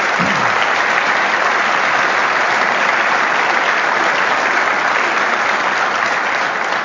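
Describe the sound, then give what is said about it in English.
Sustained applause from a sizable audience thanking the financial supporters of the events, a dense, steady wash of clapping that holds at an even loudness for several seconds with no voices standing out. “Will you join me in thanking them for making these events possible?”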